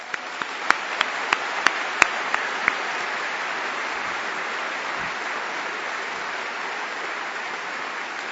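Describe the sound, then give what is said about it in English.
A crowd applauds steadily for about eight seconds for two speakers and a moderator at the close of an evening event, a dense wash of clapping with a few sharp, distinct claps standing out near the start, no voices heard. “But finally, and most importantly, I would like to thank our two speakers and our moderator with another round of applause.”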